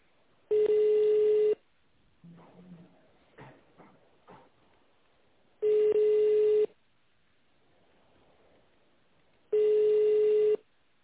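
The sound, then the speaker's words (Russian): Three loud, steady telephone ringback tones, each about a second long, separated by roughly four-second pauses, with a few short, quieter dialing-like beeps and blips between the first two, heard while calling the company GFK and waiting for a manager to answer. “Наберите добавочный номер сотрудника в тоновом режиме или дождитесь ответа менеджера.”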